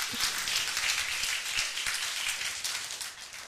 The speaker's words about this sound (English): Come on, church, let's give a clappy clap. Why not?